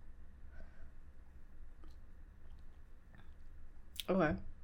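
Quiet mouth clicks over a low hum, then one short, loud slurping sip of coffee near the end.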